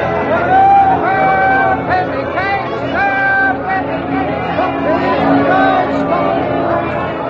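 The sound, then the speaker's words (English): A large crowd murmurs and chatters in a public square in the city of Chester on a Sunday in 1534, awaiting rolling theaters bringing a play: many overlapping voices blend into a steady, fairly loud babble, with a few raised voices rising briefly above the rest. “Throughout the city and every public square, great crowds have gathered, awaiting the rolling theaters which bring the play directly to the audience.”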